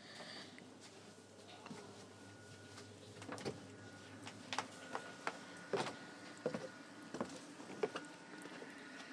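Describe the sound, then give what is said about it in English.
A door is opened to step outside into the rain: a series of sharp clicks and knocks, like a latch and handle being worked, over a steady low background hum. “And I'm going to just stick my head out the door.”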